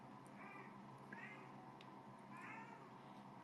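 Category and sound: animal, cat meowing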